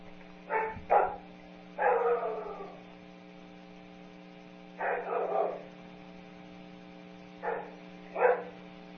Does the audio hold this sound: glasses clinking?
no